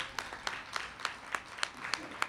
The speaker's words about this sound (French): qui est au fond, dans la lumière, qu'on peut applaudir bien fort.